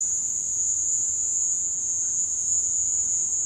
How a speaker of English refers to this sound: took some recordings that he had of crickets and played them over a loudspeaker inside a room so he could capture the echoes. Here's what it sounds like.